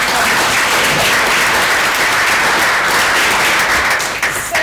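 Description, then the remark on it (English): A crowd applauds steadily for several seconds, a dense, loud wash of many hands clapping at once, beginning to thin out right at the end. “Should we give him another round of applause?”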